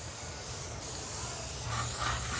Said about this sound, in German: Das ist das Geräusch ihrer Sprühdose und das Geräusch ihres Schabers. Sie hat nämlich einen Ceranfeldschaber auch immer dabei, weil sie nämlich vor über 30 Jahren zum ersten Mal einen rassistischen Aufkleber abgekratzt hat.